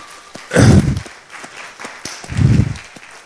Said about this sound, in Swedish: Jag tycker vi ska ge en applåd till den av dem som har gjort en fantastisk insats i Östersund under flera års tid.